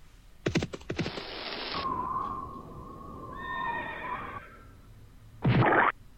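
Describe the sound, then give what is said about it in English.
Horse galloping sound effect: short, noisy hoof-like bursts open and close it, with a long, wavering whinny sounding clearly in between. No voices. “Horse galloping.”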